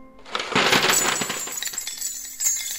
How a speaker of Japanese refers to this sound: その途端です、窓の外に降る雨の音を発して、もう一つ変わった雨の音がにわかに床の上から起こったのは、というのは真っ赤な石炭の火が私の手のひらを離れると同時に無数の美しい金貨になって雨のように床の上へこぼれ飛んだからなのです。